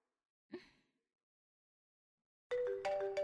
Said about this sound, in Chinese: 哎，这个点，谁打电话？啊，是前男友打的。